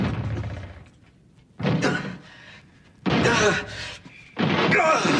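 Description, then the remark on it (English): A locked door being broken down: four heavy, booming blows land about every second and a half, each crashing loudly against the wood, with brief pauses between strikes. “I'm breaking the door down!”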